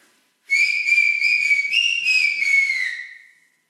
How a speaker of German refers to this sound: Pfeif okay. Bitte einmal. Dann pfeif ich mal. Pfeif mal jetzt richtig schön so zum Abschluss.